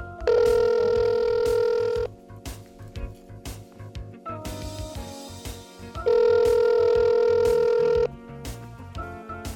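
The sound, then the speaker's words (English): A telephone ringback tone on an outgoing call to a contest winner sounds twice, each steady two-second ring separated by a pause, over a soft rhythmic music bed with no talking. “I think we need to get her on the phone.”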